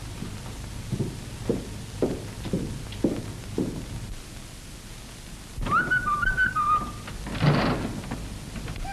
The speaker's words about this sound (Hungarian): Egész szép itt a hegyen. Jó levegő van és fütyülnek a jó madarak.